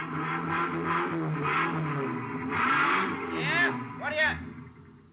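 A truck engine at the Haynes U Drive truck rental garage idles with a low, steady rumble, then revs up sharply twice near the end, the pitch climbing and falling back each time, fairly loud.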